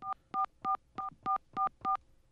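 Seven evenly spaced touch-tone beeps from a telephone keypad dialing a toll-free number in America that reads back the caller's number, each a short, bright dual-pitched chirp separated by brief pauses, with no voices.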